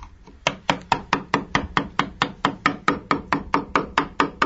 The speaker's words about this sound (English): Well, if you can't identify that sound, it's a chisel and a wood hammer. There's a specialist here, a craftsman, who is whittling away at a large piece of oak. What he's producing here is a coat of arms.